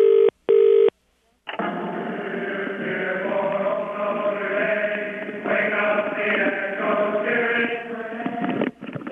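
A telephone ringing tone sounds through the earpiece on a call to a phone in Dublin, Ireland: one quick double ring, then a brief pause before the line connects to an answering machine's continuous, thin, phone-filtered stream of sound.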